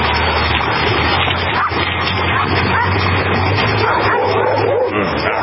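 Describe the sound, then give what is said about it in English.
A dog named Maverick barks and yips repeatedly over a loud, dense wash of background noise with a steady low hum running throughout. “Okay, we're not barking, Maverick.”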